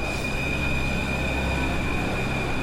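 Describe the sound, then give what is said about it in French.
A Paris metro train on line 2 rumbles steadily through a station, a continuous low roar of wheels on rails with a thin, sustained high-pitched whine running above it, and no voices. “Par où on va, la ligne 2? Ah oui, Pigalle.”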